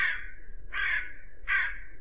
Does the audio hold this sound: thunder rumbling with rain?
no